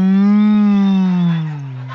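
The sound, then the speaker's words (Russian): A single long, low moo from the cow Rosa, with a rich, buzzy tone, holding steady before sagging slightly in pitch and fading a little toward the end. No one speaks. “Корова Роза сказала: Этот Тим добром не кончит.”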